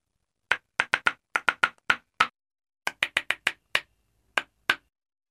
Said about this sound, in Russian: «Мы тоже умеем играть», — сказали деревянные ложки и сыграли что-то веселое.